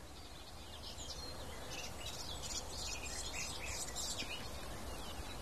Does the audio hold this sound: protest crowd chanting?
no